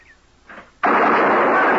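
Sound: gunshots fired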